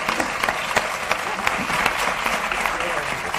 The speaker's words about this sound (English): 4, 3, cue applause.